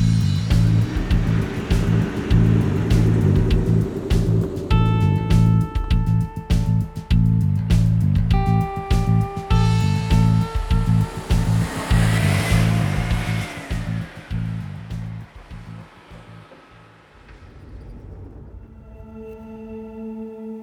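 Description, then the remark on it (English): A loud vehicle engine roars and revs through several rising surges as a car is thrown into drive and speeds off hard toward an office, before the rumble eases and fades toward the end. “Joan threw the car into drive and sped off towards her office.”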